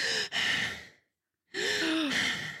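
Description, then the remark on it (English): A woman vocally imitates heavy, breathy exhalations: a long sighing breath, a short catch, a brief silence, then another drawn-out breathy sigh, fairly loud with no words. “And then you can hear the breathing and she's just like.”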